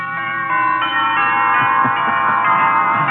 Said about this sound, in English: I understand. Wedding bells.